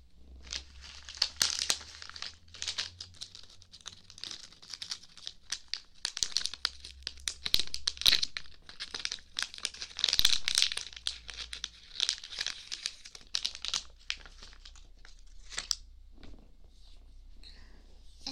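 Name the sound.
rummaging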